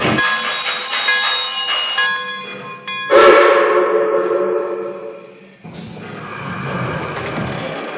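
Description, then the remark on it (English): A steam passenger train, train number 4215 the Blue Comet, idles on track one at the Jersey City station, with steady mechanical rumble, sustained ringing tones, and loud bursts of hissing steam that swell and fade. No one speaks. “Track number one, train number 4215, the Blue Comet.”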